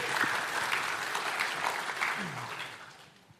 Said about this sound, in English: You can stop applauding. It makes me feel like I'm doing this. That's not the point.